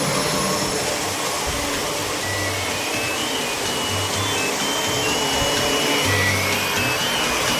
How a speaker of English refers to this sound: And annoy the neighbours with a copious amount of hoovering. It just blots out all life as we know it.